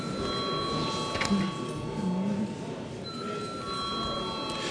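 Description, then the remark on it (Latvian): In the chamber of the Latvian Saeima (parliament), a steady electric bell rings continuously for several seconds before a vote, a sustained bright tone with a brief break partway through, over a low murmur. “Lūdzu zvanu.”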